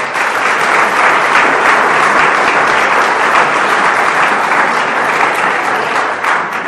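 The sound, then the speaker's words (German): Sustained audience applause, a dense, even wash of many hands clapping at steady loudness throughout, with no speech on top. “Vielleicht ein Applaus für...”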